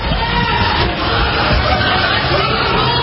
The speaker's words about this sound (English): You can hear workers inside Sam's Jewelers screaming in fear. It was like a whole bunch of glass just shattering.